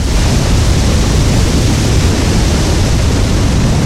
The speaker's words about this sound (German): Wer dieses Geräusch bei einer Skitour hört, befindet sich womöglich in einer brenzlichen Situation. Eine Lawine hat sich gelöst und rast eine Bergflanke hinab ins Tal.